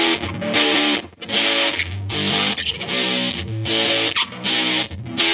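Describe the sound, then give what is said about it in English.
Electric guitar with two P90 pickups played through a Big Muff Triangle reissue fuzz distortion pedal, sustained buzzy chords with saturated, hairy harmonics, strummed in a loose rhythm with brief gaps between phrases; loud and without any talking. “That is a Big Muff Triangle reissue pedal.”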